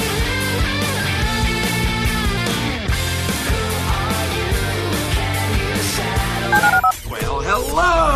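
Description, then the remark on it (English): A steady run of telephone keypad dialing tones as a phone is dialed to call the HRMP listener line, bright layered beeps forming a loud, busy musical pattern, ending with a brief dip and a swirling burst of sound. “To call into the HRMP listener line, dial 713-780-ESPN. Dial the phone.”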